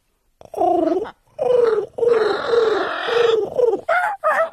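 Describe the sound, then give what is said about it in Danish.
A parrot at Radio 24/7 squawks and chatters in a run of four or five loud, raspy calls, some drawn out and warbling, others short and shrill, with brief gaps between them. “Det er en papegøje, Jan.”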